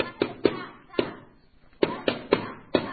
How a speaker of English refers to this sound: desperately, they knock on one last door